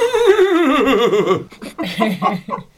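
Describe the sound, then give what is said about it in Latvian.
A person imitates a horse's whinny with a loud, wavering voice that quavers and slides downward for about a second and a half, then breaks into short bursts of laughter. “Tu vari atdarināt zirgu”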